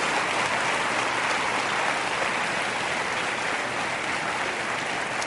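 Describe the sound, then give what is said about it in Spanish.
Sustained applause from a large crowd giving the Lord a round of applause during a sermon: a dense, steady wash of clapping that stays loud and even for several seconds with no voices above it. “¿No le dan un aplauso al Señor?”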